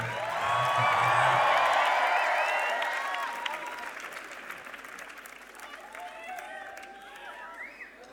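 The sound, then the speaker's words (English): A crowd at a hip hop performance breaks into loud applause and cheering, with whistles and shouts rising over the dense clapping, which peaks early and then slowly tapers off while voices continue in the crowd. “Make some noise for hip hop.”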